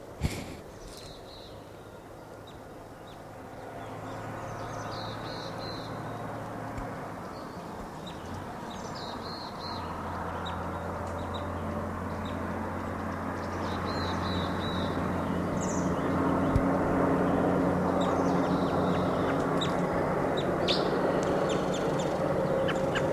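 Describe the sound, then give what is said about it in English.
Short clusters of high chirping calls from a single bird foraging in lodgepole pine come every few seconds over a steady, rushing background noise, with a few brief quieter chips in between. “Here's one bird.”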